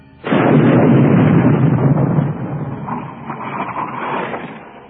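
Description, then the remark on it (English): A single heavy 88 mm artillery gun fires with a sudden, loud, deep boom, then a long rolling rumble that slowly fades over several seconds. No voices are heard. “See what it is, Sergeant? Yeah, it's an 88, all right.”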